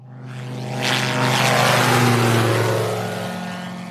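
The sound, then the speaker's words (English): A Bathawk single-engine, open-cockpit microlight aircraft at Sitara Airfield drones steadily with a buzzing propeller hum, growing louder as it passes by and then easing slightly as it moves away; no one speaks. “That afternoon, we went to Sitara Airfield to meet a microlite aircraft called a Bathawk. It's an open cockpit machine with a single engine, and it has proved a vital tool in the war against poachers.”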